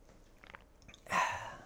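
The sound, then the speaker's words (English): A few soft, wet mouth clicks from someone drinking water, followed by a louder breathy gulp and exhale that trails off. No one speaks. “Sorry, I needed some water.”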